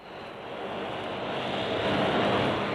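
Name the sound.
aircraft engine in flight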